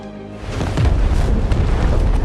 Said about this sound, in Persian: آتش فشان فوران کرده، زمین لرزه ناشی از فوران از طریق استخوان‌های زمین پخش شده و چاه‌های خورشیدیمون رو تخریب کرده.